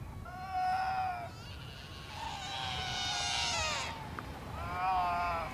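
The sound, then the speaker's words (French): A mother animal calls out to her young in three drawn-out, wavering cries, fairly high-pitched and bleat-like, over a low steady rumble with no talking. “Les cris qu'on entend, c'est une mère qui appelle son jeune.”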